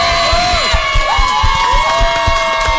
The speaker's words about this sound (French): Sébastien Roch avec Elsa Esnou et Jean-Luc Azoulay qui nous ont rejoints. On peut les applaudir aussi.